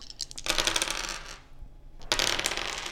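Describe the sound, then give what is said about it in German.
Three dice being rolled, rattling and clattering onto a hard surface in two bursts of bright, rapid clicks, with a short quieter gap between them and no voices. “Ich darf jetzt würfeln. Ich würfel mit 3 Würfeln.”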